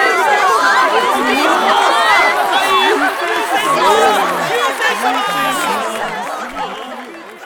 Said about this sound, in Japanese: それでは皆さん、救世主様にもう一度大きな声援と拍手を。